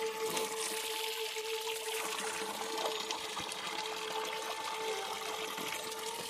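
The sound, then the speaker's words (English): Bethlehem water pours in a steady, continuous stream, a moderately loud splashing rush with a faint mechanical hum underneath; no voices are heard. “This is the Bethlehem water. It tastes great.”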